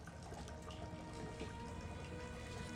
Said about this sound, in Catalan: Vestida amb una bata rosa, s'asseu a la vora de la banyera i obre l'aixeta. Toca l'aigua i de seguida en retira la mà.